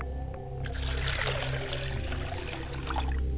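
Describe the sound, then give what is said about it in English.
Water is poured out as a libation to the father's side of the family in a steady trickle that splashes softly for a few seconds over a low, constant background hum, with no one speaking. “I pour the water to my father's side of the family, and I say, Ashe.”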